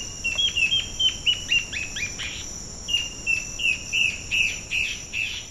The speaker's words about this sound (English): If the wife ant bird catches her husband singing to a potential mistress, she belts out a complex countersong.